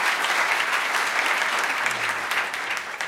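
Steady applause from a crowd for a student leader fills the whole stretch, a dense, even wash of many hands clapping at full strength with no voices rising above it.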